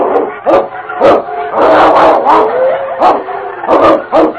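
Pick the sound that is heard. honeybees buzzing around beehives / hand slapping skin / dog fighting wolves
dog fighting wolves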